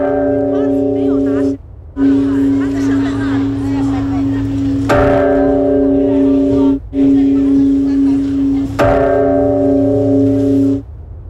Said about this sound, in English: A bell's been struck 108 times at a historic temple in Taipei in Taiwan.